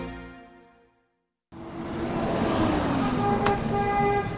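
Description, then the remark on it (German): Busy city street traffic in Tel Aviv with a steady roar of passing cars, punctuated by several car horn honks, one long harmonic toot fading out at the start, then more honking amid the din. “Die Straßencafés sind voll. Keiner stört sich am Verkehrslärm.”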